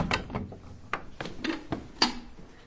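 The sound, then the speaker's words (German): A wooden door or gate creaks and knocks open, with several sharp clunks and rattling mechanical clicks spread over a few seconds, with no one speaking. It is a second door, a kind of gate, opened to enter the inner courtyard of an old-town house with a mikveh, a Jewish ritual bath, below. “Durch eine zweite Tür, eine Art Tor, betreten wir den Innen- bzw. Hinterhof des Gebäudes.”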